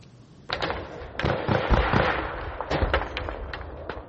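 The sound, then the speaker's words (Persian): Repeated sharp gunshots and artillery fire at the border between Tajikistan and Kyrgyzstan: irregular bursts and single shots crack over a constant rumbling din, with heavy booms underneath, all loud and with no voices. “صدای تیر و توپ در سرحد تاجیکستان و قرغیزستان دوباره بلند شد.”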